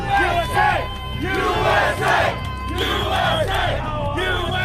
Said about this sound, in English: But as he walks away from the chanting crowd, he looks into the camera with a knowing smile.